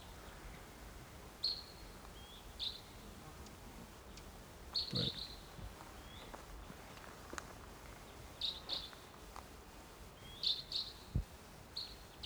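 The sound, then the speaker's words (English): A wild bird calls from across a gully, perched somewhere about 150 or 200 yards away, giving short, high chirping notes in scattered bursts over a soft, steady background hiss; a single word is spoken briefly. “Oh no, I still hear it. It's off to the, across the gully.”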